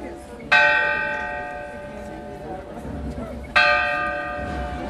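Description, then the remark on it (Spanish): A church bell tolls twice, about three seconds apart, each loud ringing stroke slowly fading with a shimmering hum over a low outdoor background murmur; part of eleven strokes at 11 a.m. marking the start of the presidential guard change in front of the Palacio de Carondelet. “Once campanadas marcan el inicio y una voz, a través de grandes parlantes, señala las órdenes que debe seguir la escolta presidencial.”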